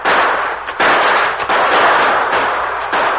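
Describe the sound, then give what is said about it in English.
A shootout at twilight between the Lone Ranger and Tonto, sheltering among trees, and two remaining outlaws. Gunshots are fired in rapid, overlapping volleys, a loud, dense crackle broken by a few brief pauses, with no voices. “In the twilight, the Lone Ranger and Tonto exchanged shots with the two remaining outlaws.”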